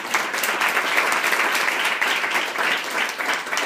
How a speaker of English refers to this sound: I'd like to thank the organizers for this space and this time. So if we could just give them another round of applause.